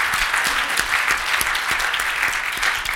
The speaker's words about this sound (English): Would you please welcome Bob? Please stand. Representative Bob Heaton. Give Bob a round of applause, please.